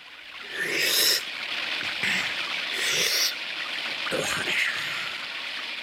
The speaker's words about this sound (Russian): Дай-ка я последний раз выпью водицы из ентового источника.